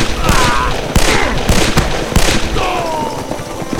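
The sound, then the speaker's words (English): A rapid series of sharp gunshots cracks out in irregular bursts, loud and dense, with overlapping reports and brief whistling tones in between, like a chaotic exchange of gunfire. “They're bound to have heard those shots back in camp.”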